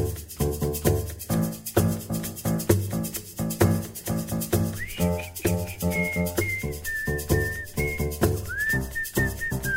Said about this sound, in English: So we just need another sound for the intro, and that was the whistling bit.